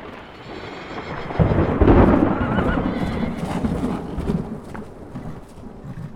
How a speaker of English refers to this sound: walked to his horse, and rode swiftly out of town in the torrential rain, with thunder and lightning flashing and booming all around him.